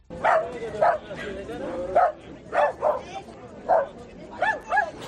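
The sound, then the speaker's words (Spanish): Dogs bark and yip in quick, uneven bursts, about eight sharp barks over a few seconds, loud, with a murmur of voices in the background, as people gather with their pets outside the San Antón hermitage in the city of Murcia for an animal blessing. “Un año más, los grandes protagonistas de esta cita han sido los perros.”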